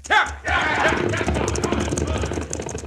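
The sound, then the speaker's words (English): Outlaws mount their horses and gallop away, the hooves of several horses a rapid, rhythmic clatter over a low rumbling background, with indistinct voices mixed into the loud, busy scene. “Now, with the stage escaping down the mountain, all the outlaws but one mount their horses.”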